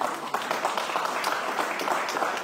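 Dense, steady applause from a crowd, many hands clapping at once in a continuous crackling wash with no pauses, holding an even loudness throughout.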